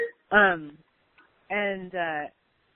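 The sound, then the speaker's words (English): A phone rings with a tonal, melodic ringtone: one short falling note, a brief pause, then two steady buzzy tones in quick succession, fairly loud with no talking over it. “Someone's phone.”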